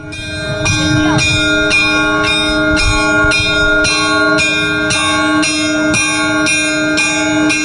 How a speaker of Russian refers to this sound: Уже 9-й год подряд на территории церковного комплекса проходит фестиваль колокольных звонов. Ежегодно в день Казанской иконы Божьей Матери над микрорайоном Холодово разносятся раменские перезвоны.